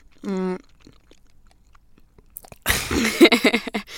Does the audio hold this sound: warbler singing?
no